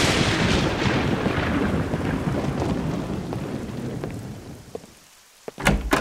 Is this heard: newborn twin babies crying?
no